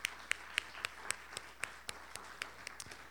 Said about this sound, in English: Let's clap our hands and praise the Lord for that.